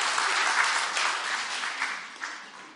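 Steady audience applause, a dense wash of many hands clapping at once with no talking, holding fairly even and then tapering slightly toward the end.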